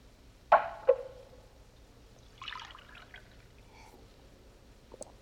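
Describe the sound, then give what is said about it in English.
A couple of sharp glassy clinks, then water briefly pours and splashes into a glass, followed by a few soft drips; fairly quiet, with no voices. “Could I have a glass of water?”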